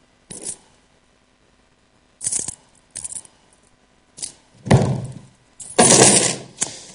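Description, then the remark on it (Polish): Metal coins from a collection, including coins from Mexico and Singapore, clink and jingle as they are dropped and shuffled around, in a series of bright bursts separated by short pauses, growing busier and louder toward the end. “Wybrałem ze swoich zasobów różne najciekawsze monety z Meksyku.”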